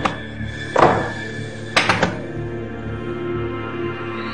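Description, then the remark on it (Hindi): Heavy, dull bangs on a locked door, about four irregular thumps, two of them in quick succession, over a steady low droning background with no voices. “दरवाजा खोलो। तुम ऐसे छुप के नहीं बैठ सकती सुमैदा।”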